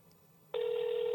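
foreign telephone ringing tone

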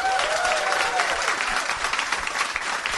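audience applause

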